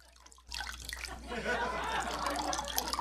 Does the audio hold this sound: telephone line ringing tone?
no